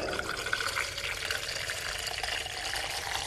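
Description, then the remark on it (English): Irish ale gushes steadily from an opened valve on a large metal tank, held at 2 degrees, into a pint glass, a continuous hissing, splashing pour with a bright bubbly texture that holds at an even level throughout, with no talking. “Yeah, so I'll just open the valve here, we take a sample out of it.”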